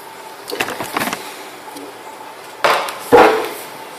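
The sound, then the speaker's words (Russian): A metal pot is handled with a few soft scraping clanks, then set down with two sharper knocks near the end, fairly loud against a quiet background. “Значит, вот наша кастрюлька.”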